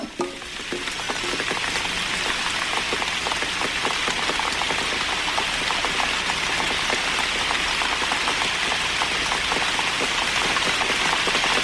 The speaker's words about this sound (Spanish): Agua que cae sobre mi cabeza.